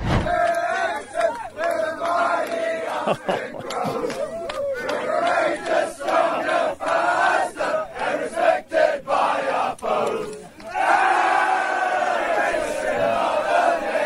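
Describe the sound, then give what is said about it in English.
Players of the Austin Crows football team chant and shout together after a big win, loud, rowdy unison, voices overlapping in a continuous raucous celebration with rhythmic bursts and whoops throughout. “But we got some audio here of you boys after your big win, of course, and you got in there, and you are called the Crows.”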